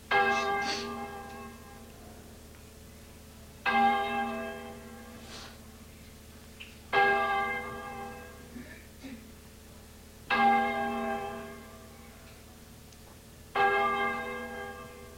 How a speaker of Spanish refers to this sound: Se oyen las campanas de un reloj de iglesia. Son las 5.